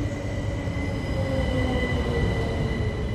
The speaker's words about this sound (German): Dann die heiß ersehnte Lautsprecherdurchsage. Es hat Einfahrt der Regionalexpress 4412 aus Dresden. Bitte Vorsicht an der Bahnsteigkante. Eine Punktlandung. Der Zug ist genau im Fahrplan.